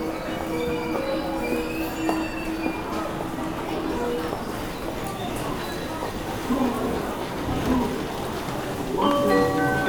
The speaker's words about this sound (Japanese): 電車到着しています。ご注意ください。2番乗り場、電車到着しています。電車新快速安行きです。